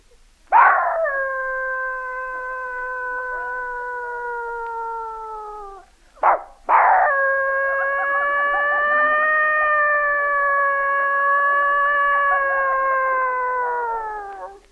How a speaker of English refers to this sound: Dog serenade.